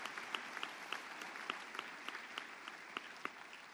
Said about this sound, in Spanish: Si estás de acuerdo, haz un aplauso al Señor, a Él, porque hay esperanza. Hay esperanza en este lugar.